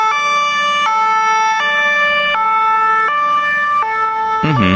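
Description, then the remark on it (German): An emergency vehicle siren alternates steadily between two tones, high and low, switching about every three-quarters of a second. It is loud and continuous, with no voices. “Genau, sie fahren langsam Richtung Strassenrand, damit die Feuerwehr, die Polizei oder die Ambulanz durch kann.”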